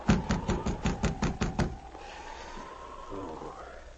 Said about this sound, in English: I guess you didn't hear the knock.